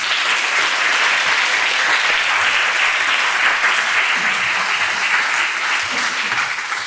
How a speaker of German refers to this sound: Also herzlich willkommen und großen Applaus für Thorsten Schleif.